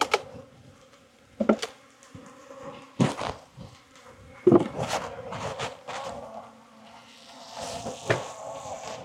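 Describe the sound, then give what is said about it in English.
Honey bees buzz steadily around an open hive as a gloved beekeeper handles a heavy honey box, a continuous hum of many insects, broken by occasional knocks and scraping handling noises. “A couple of bees finding their way under my cuffs, I think.”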